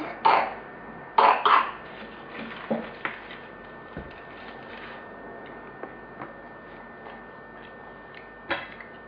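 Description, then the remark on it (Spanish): Several short, harsh coughs come in scattered bursts: one at the start, a quick double cough soon after, then softer hacks and a final cough near the end, with no talking. “Tos mal.”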